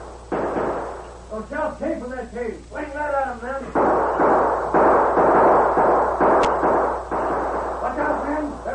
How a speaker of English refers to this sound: As the Lone Ranger watched, the posse neared the cave. Then suddenly he heard shots.